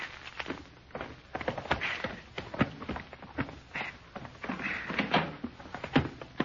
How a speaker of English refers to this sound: All right, go ahead and open the door, short off. Here's the keys. Okay.